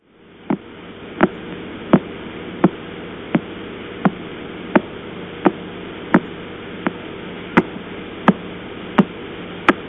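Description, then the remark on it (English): A radio telescope recording made with the Lovell Telescope pointed at the sky, capturing a ticking cosmic signal: sharp, evenly spaced clicks, about one every 0.7 seconds, pulse steadily over a constant wash of static hiss and low hum, with no voices. “However, we can imagine moving our telescope off Cassay, the exciting supernova remnant that produces the rather boring sounds, pointing in another direction in the sky, and this is what we hear. Again, a recording made with Lovell Telescope.”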